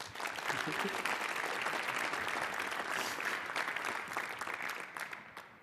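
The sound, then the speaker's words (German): An audience claps steadily for several seconds to welcome a speaker before a talk on climate protection, a dense, even wash of many hands that holds loud throughout and then begins to thin out at the end. “Und ja, wünsche euch viel Spaß und einen herzlichen Applaus bitte.”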